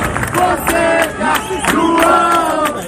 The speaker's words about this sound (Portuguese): A torcida não decepcionou, apoiando João Fonseca em seu primeiro duelo no Saibro Parisiense.